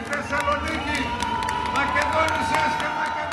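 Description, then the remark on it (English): A small crowd at a New Democracy campaign rally in Greece claps in scattered, uneven bursts while voices cheer and call out over a steady murmur of chatter, moderately loud throughout, as party leader Andonis Samaras strides to the podium. “A few people clapped and cheered when leader Andonis Samaras strode to the podium and said that he would bring growth and justice to Greece.”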